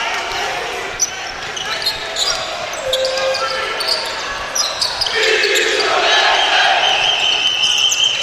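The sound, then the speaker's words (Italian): During a basketball game involving Scafati, player Smith dribbles a basketball on a hardwood court in a few scattered thumps, half-buried under a steady roar of arena crowd noise that swells louder toward the end. “Smith, insistenza nel palleggio, poi arresto e tiro corto ancora”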